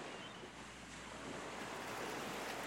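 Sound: sea waves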